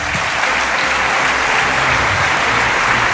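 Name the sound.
studio audience applause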